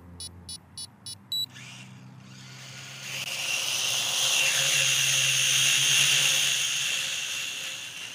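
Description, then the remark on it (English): Four quick electronic beeps, then a small hobby drone weighing about 120 grams spins up its rotors into a loud, high-pitched buzzing whine that wavers in pitch as it flies around an outdoor car park, with no one talking. “We've got a drone here. It's just a little hobby drone that costs about £50, weighs about 120 grams.”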